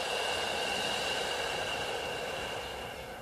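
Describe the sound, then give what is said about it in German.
A long, steady deep breath out during a guided meditation, a soft airy hiss lasting about three seconds and tapering off at the end, with no voices. “Und wieder aus.”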